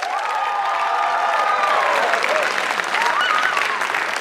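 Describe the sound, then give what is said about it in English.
UNC students applaud loudly and steadily, clapping to vote that the speaker is right, a dense wash of clapping with a few cheers and whoops rising above it, sustained at full volume throughout. “That was all UNC students applauding.”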